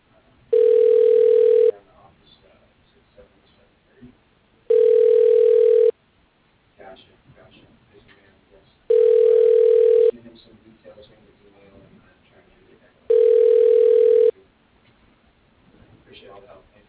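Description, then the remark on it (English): A telephone ringback tone as a call is transferred to the receptionist: four loud, steady single-pitched rings, each about a second long, repeating every four seconds or so with faint line hiss between them. “Your call is being transferred to the receptionist.”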